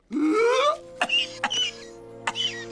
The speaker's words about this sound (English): The frog king splutters and coughs before seemingly succumbing to his death. The frog king. The king draws in a huge breath, coughing.